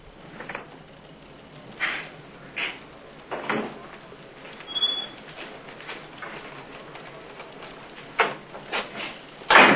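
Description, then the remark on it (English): A door being opened: a series of scattered clunks and rattles over several seconds, ending in a louder, sharper bang, with no talking. “This will open the downstairs door, too.”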